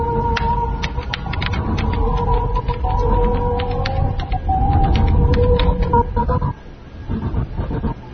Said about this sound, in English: There are distinct blocks within each pattern, and within each block, the tones come in groups of three. It's 3-3-3, 3-3-3. It's always 3-3-3. It's always the same.